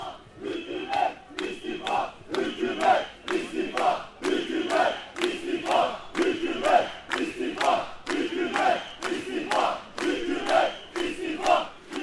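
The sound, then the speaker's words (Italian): A large crowd of tens of thousands of protesters in a city centre street, demonstrating against the police and calling for the prime minister's resignation, chants in unison: loud rhythmic shouted phrases repeating steadily about once a second, with a constant roar of many voices underneath. “questa sì assolutamente inattesa, di ritrovare nel centro della città un paio di giorni dopo alcune decine di migliaia di persone che manifestano contro la polizia e chiedendo inizialmente le dimissioni del primo ministro.”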